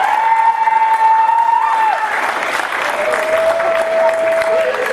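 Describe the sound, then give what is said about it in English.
An audience applauds the performers at the end of a show, steadily for the full five seconds, a dense, loud wash of clapping, with a sustained whistle-like tone running through it and briefly shifting pitch partway. “Let's give one more round of applause to all of our performers.”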